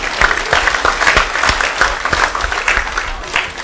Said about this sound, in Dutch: Heel goed, applaus voor jezelf.